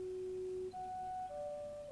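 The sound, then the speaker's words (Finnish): A text message alert tone plays alone: three clean electronic notes in quick succession, a low sustained tone followed by two higher ones, steady and clear with no voices. “Tekstiviesti.”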